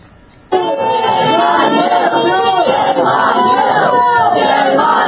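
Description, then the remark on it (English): Angry left-wing students at the City University of New York Law School shout down a free speech advocate, a dense wall of overlapping voices that erupts suddenly after a brief quiet moment and stays sustained and intense throughout. “Consider the scene at the City University of New York Law School, where angry left-wing students shouted down a free speech advocate.”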